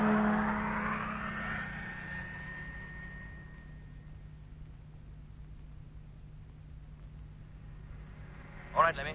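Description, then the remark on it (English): A truck motor starts up and revs, its whine rising and then fading into a steady low rumble as it pulls away, with a brief clatter near the end. “Motor on. And here we go.”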